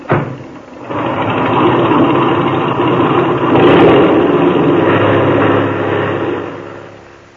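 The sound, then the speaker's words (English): An airplane engine roars up to a loud, steady drone after a brief start as the motor is opened with brakes set before takeoff, holds a thick sustained rumble for several seconds, then begins to fade near the end. No voices. “Now, set your brakes. Open that motor, and when I wave to you from the outside, take her off.”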